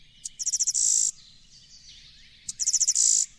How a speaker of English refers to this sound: Does that sound like what you're hearing in your backyard? Well, what you just played was the alternate song of the blue-winged warbler that it sings later when it establishes territory.